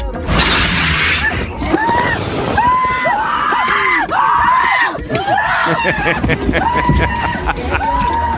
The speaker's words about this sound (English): Then you see a giant fireball, and the back of the driver's head is on fire. And then for the next 30 seconds, it's just kids screaming, courtesy of the dash cam.